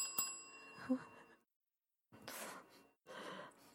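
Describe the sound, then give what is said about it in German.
A small bell is struck once, its bright ring hanging and fading over about a second, followed after a pause by two soft, breathy exhalations. “So eine Glocke, die ich einfach betätigen muss und dann wird mir serviert.”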